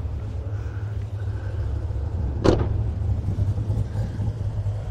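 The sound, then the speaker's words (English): A car engine rumbles steadily with a deep, even idle, broken once midway by a brief sharp bang before the low running drone continues. “Woo! Yeah, we got it rolling. The car's healthy.”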